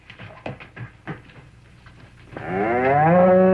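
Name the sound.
cow mooing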